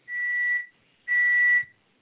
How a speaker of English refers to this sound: Is that a bird? Something was tweeting.